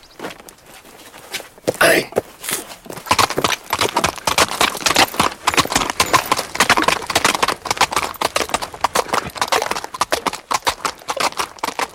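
horse hooves clip-clopping

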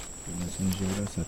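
howler monkeys howling

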